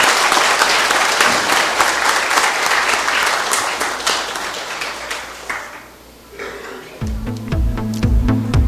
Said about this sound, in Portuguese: Pedimos uma calorosa salva de palmas aos vereadores empossados e à nova diretoria eleita.